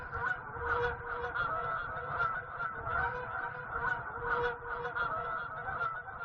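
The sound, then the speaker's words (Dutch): A large flock of geese flying overhead, honking continuously, many overlapping calls forming a dense, steady chorus that stays fairly loud throughout, with no voices. “Waren ze onder de indruk van die eenzame plek, van de wijdheid, van de overvliegende ganzen in de lucht?”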